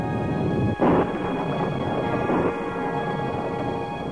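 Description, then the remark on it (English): Thunder rumbles steadily with a sharp crack near the start and a second swell partway through, a deep continuous roll that fills the whole stretch without any voices. “The voice of God was in the thunder and trumpet, saying, I am the Lord thy God, which have brought thee out of the land of Egypt, out of the house of bondage.”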